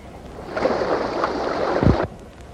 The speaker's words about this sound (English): I heard a set cut out. There was water. I know I heard rushing water.